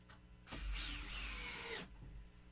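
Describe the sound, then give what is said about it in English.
An electric drill whirs in one loud burst lasting just over a second, driving a screw into pre-drilled wood while assembling a bat house, then cuts off. No one speaks. “The key to this is having a drill.”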